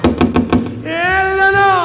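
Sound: knocking on a door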